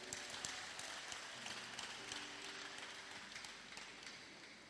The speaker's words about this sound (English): If you are happy, clap your hands and sit down.